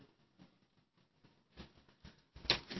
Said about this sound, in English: First day of rain in 181 days. Coming down good. We appreciate it.